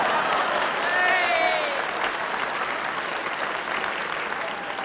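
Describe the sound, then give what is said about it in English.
Audience applause, prompted by Bluebottle making a sign to the audience, fills the whole clip: a dense, steady wash of many hands clapping at fairly constant loudness, with a brief high whistle or cheer cutting through early on. “And a blue bottle making sign to audience for applause.”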